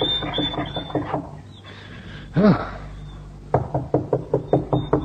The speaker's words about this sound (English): Raoul knocked on the door of the farmhouse.